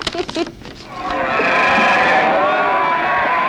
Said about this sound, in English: Well, sheep, there is sheep.